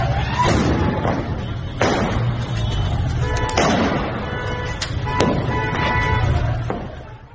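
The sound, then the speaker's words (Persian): Five sharp gunshots, fired by government security forces at street protesters, ring out at steady intervals over a constant rumble of street noise and crowd din, each crack loud and cutting through the background. “در ویدیویی که الان صداشو میتونیم بشنویم، تیراندازی‌های مداومی رو از زاویه حرکت نیروهای حکومتی سرکوبگر ضبط شده که نشون میده که نیروها تردیدی در استفاده از سلاح علیه معترضان، سلاح‌های گوناگون، تفنگ‌های ساچمه‌ای، شلیک گاز اشکاور و موارد دیگر ندارند.”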